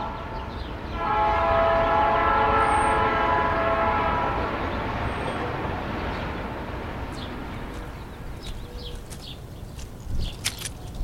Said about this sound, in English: I'm still here, not far from the tracks, then as now. The trains are my acoustic family, safely taking me elsewhere.